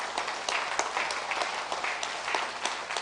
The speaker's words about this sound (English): Let's applaud that. Let's applaud what God has done.